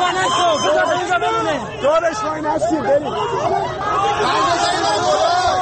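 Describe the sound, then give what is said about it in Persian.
A restless crowd, gathered in a street around the bloodied, badly beaten Mohammad Ali Rasekhnia, murmurs continuously, many overlapping voices blending into an agitated babble with no single speaker standing out, steady and fairly loud throughout. “مردمی که دور محمد علی راسخ‌نیا حلقه زدند با دیدن چهره درهم شکسته و خونین او بیقرار هستند، بیتابی می کنند.”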